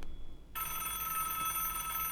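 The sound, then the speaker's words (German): A telephone starts ringing abruptly after a brief quiet moment, a bright, steady electronic ring, fairly loud, with no voices over it. “Ja, also ich glaube, mein Telefon ist das jetzt gerade nicht, oder?”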